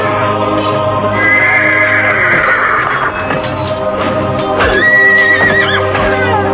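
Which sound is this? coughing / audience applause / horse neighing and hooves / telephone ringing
horse neighing and hooves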